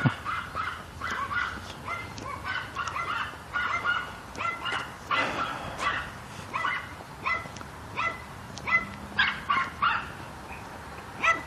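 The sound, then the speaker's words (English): Several small dogs bark in rapid, high-pitched yaps, overlapping in a steady chorus throughout, moderately loud, with no talking. “Little yappy dogs.”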